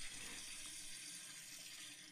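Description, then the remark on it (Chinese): A faucet runs steadily into a sink while someone washes dishes, a continuous hissing splash of water that stays even throughout, not loud, with no voices. “我洗碗呢，你凑过来干什”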